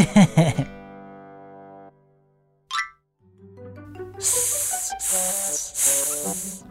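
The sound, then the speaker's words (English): A voice imitates a pipe snake's hiss in three loud, drawn-out hissing bursts in quick succession, with soft tonal notes sounding underneath and just before. “Went the pipe snake.”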